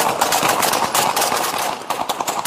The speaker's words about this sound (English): Within seconds, you hear three gunshots. Shortly after that, there are several more.